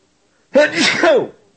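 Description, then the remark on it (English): A single loud sneeze bursts out sharply after a moment of silence, a quick breathy explosion that fades out within about a second. “No, that was an actual sneeze.”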